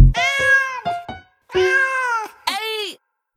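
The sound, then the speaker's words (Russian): A cat meows loudly, a rapid run of drawn-out and clipped meows with a couple of very short chirps between them, heard alone with no talking. “Пусть читает лучший кот.”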